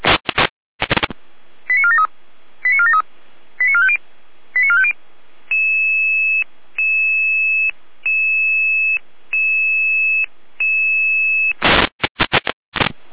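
A radio dispatch alarm in Germany alerting Red Cross Saalfeld units to a call in Gräfenthal: short static-like data bursts, four quick warbling beep groups, then a steady sequence of repeating two-pitch tones with brief gaps, closing with more crackling bursts. No voices.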